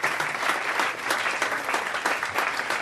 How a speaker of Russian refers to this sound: Возможно, здесь нужны сочувствующие аплодисменты зала на фоне.